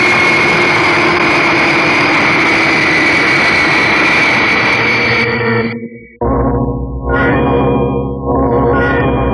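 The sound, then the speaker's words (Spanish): Fighter jets landing on an improvised desert airstrip roar loudly, a dense, steady engine blast for several seconds that cuts to a deeper rumbling drone with surging swells. No voices. “En la pista improvisada del desierto, los pavorosos bólidos celestes, los velocísimos jets de caza, siguen aterrizando.”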